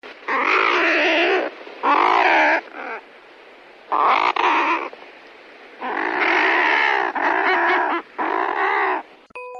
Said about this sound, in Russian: Тонкоклювая кайра.